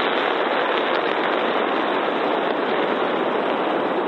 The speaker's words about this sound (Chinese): SpaceX 星期四在发射台完成了全面静态点火测试。